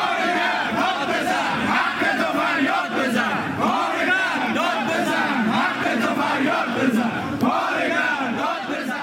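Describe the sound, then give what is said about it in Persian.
A large crowd of striking workers at the Pars home appliance factory in Alborz industrial city, Alvand, chants the slogan 'Worker, shout, cry out for your right' in unison on Saturday. Many voices shout together in a steady, forceful rhythm that stays loud and dense throughout, with no single voice standing out. “کارگران کارخانه لوازم خانگی پارس در شهر صنعتی البرز در الوند نیز روز شنبه اعتصاب کرده و شعار کارگر داد بزن، حقت رو فریاد بزن سر دادند.”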